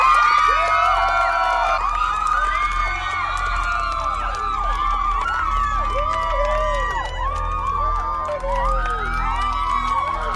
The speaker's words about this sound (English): And the crowd is going nuts. This is absolutely amazing. The crowd is loving him.